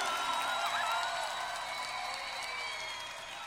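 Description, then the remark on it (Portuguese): An audience applauds Jesus during worship, a dense, steady wash of many hands clapping that holds at full strength, with faint tonal music underneath, then eases slightly toward the end. “E aplauda Jesus, o dono da tua vida.”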